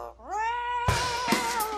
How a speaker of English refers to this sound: Good girl. Lucy, the Amazon parrot, says no.